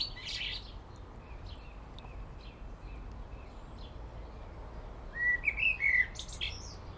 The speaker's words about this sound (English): Mr. Blackbird, he's right on top of the telegraph pole at the corner of the garden, 30 feet in the air, belting it out.